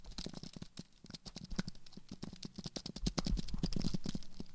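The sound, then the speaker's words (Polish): Typing on an Apple Magic Keyboard used every day: a rapid, irregular run of soft, crisp key clicks that gets a little busier toward the end, with no voices. “Najpierw klawiatura, która normalnie, z której korzystam codziennie.”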